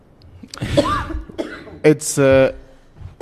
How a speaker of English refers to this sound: And then she coughed.